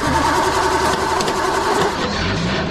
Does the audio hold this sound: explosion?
no